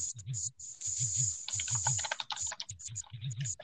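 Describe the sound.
Rapid computer keyboard typing, a steady stream of sharp clicky keystrokes with brief pauses, accompanied by low murmuring voices underneath throughout.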